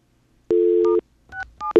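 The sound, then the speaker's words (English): A steady, loud telephone dial tone plays for half a second on a Bell Atlantic line, then a few short touch-tone beeps follow at uneven intervals, each a bright two-note chirp, as star 67 is dialed and a wrong key is hit. No one speaks. “Can we do star 67 from these lines? Let's find out. Whoops, I hit the wrong number.”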